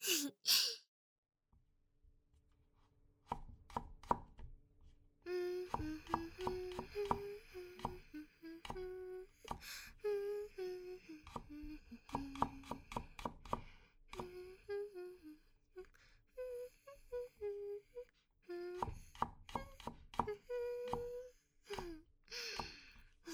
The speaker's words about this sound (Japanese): どげん、うちの包丁さばき全然危なっかしくなかろう。リズムよくトントントンってね。